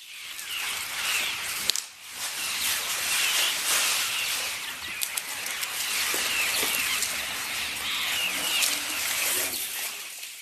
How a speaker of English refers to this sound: The closest we can get to that is listening to a herd of elephants grazing in the Sabi River Valley.